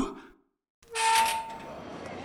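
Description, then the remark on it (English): After a short silence, the train to Paris rushes in at St. Pancras International with a loud hissing roar and a brief high whistle-like tone, then settles into a steady mechanical rumble. “It's not a ghost train, Charlie. It's the train to Paris.”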